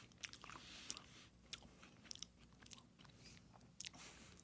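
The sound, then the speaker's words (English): Crunchy chewing of a big bite of a crisp chocolate wafer bar with ketchup, with irregular crackly bites and mouth sounds repeating over several seconds, no talking. “Nice big bite from …. Chewing.”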